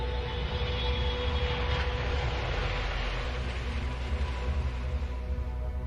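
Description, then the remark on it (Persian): A steady, loud engine drone of a military airplane in flight, carrying the Shah and the Shahbanu with armed forces with machine guns and bulletproof vests aboard, headed toward Lackland base; a constant low rumble and faint tonal whine. “فراهو رسوندن به شاه و سوار یه هواپیمای نظامی کردن که حلقه بزرگی از نیروهای مسلح به تیربار و جلیقه‌های ضد گلوله داخلش بود.”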